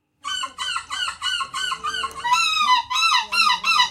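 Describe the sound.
A person in a seagull impersonation competition imitates a seagull, letting out a loud run of about a dozen rapid, nasal squawking calls that rise in intensity toward the end, with no talking.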